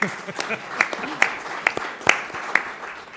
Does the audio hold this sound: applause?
yes